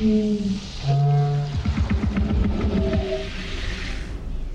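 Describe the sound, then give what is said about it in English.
An alien language for the sci-fi film Arrival, made by New Zealand-based sound designers David Whitehead and Michelle Child from recorded local birds with their pitch lowered, plus other animals and instruments like bagpipes and didgeridoos: low, drawn-out tonal moans with bright harmonics, broken midway by a burst of rapid, stuttering pulses, with no one speaking. “To create the language of the aliens, New Zealand-based sound designers David Whitehead and Michelle Child recorded local birds and lowered their pitch, then added some other animals and instruments like bagpipes and didgeridoos.”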